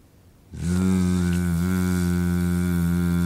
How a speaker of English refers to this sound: We're not going to bite, we're just going to have it there nice and relaxed like this. Okay, from there we're going to attempt to hum to the tip of the tongue.